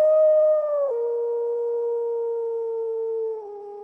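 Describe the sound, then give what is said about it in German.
A wolf howls in one long, sustained note that holds steady, steps down slightly in pitch and fades at the end. Loud, with no other sounds or voices. “Immer wieder hörten sie das Heulen der drei Wölfe.”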